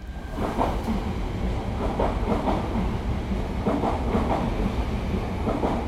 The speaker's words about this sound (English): As the trains to Central Station are passing by, he talks about his life's journey that brought him to Amsterdam.